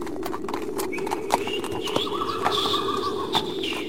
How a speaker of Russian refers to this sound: Где столярный переулок? Спросил Лугин нерешительным голосом у порожнего извозчика, который в эту минуту проезжал мимо него шагом, закрывшись по шею мохнатую полостью и насвистывая комаринскую.